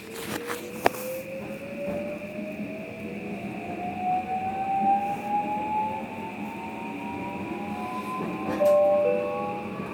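Inside a moving train: a steady low rumble with a motor whine that climbs in pitch as the train speeds up, plus a brief sharp click near the start.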